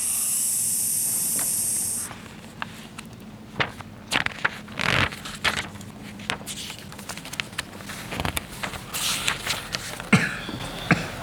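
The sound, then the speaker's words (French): A snake hisses loudly and steadily for about two seconds, then stops, leaving a quieter stretch of scattered clicks, taps and rustling scrapes with no voices. “Oh, il est plus là, le serpent. Vous avez vu un serpent ?”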